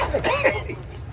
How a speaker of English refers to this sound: Oh, back in the 90s, when Kramer borrowed a coughing dog, it was all fun and games, wasn't it?